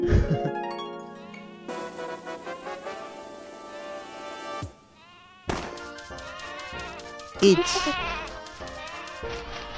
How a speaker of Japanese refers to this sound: でもこの声ってさ、ヤギの子ヤギの声なんだよね。